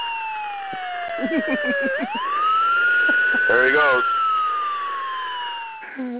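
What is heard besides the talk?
police car siren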